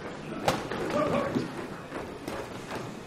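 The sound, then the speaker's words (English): Sharp thuds and slaps echo through a large, loud, warehouse-like boxing gym, Circle of Discipline, as jump ropes slap the floor and fists hit heavy bags and sparring opponents; a couple of loud hits stand out over steady background clatter and faint, indistinct voices. “As I wait in the interior hallway, I hear chaotic sounds from around the corner. I walk down to investigate and discover a wide-open door to a boxing gym called Circle of Discipline.”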